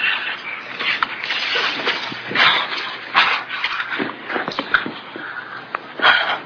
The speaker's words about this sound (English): All that panting and blowing.